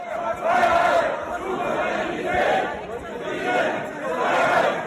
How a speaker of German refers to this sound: Auch andere Sprechchöre sind zu hören. Maske runter und Merkel muss weg.